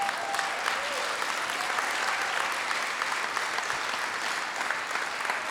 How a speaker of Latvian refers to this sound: Jēzus Kristus. Dod viņam aplausus.